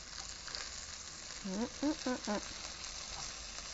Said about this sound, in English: Good. Flipping over the whole chicken thigh. Skin has gotten a little browned up. I just want to basically get some color on there.